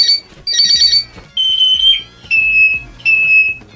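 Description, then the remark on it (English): A pet parrot, Jazzy, mimics a smoke alarm: five loud, shrill electronic-sounding beeps in uneven bursts, the pitch wavering slightly from one to the next, with no talking. “likes to imitate things, and he imitated the smoke alarm so well that they called the fire brigade.”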